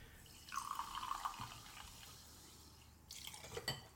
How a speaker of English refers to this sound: So just a little splash of soda for everybody. See, now it's piling up.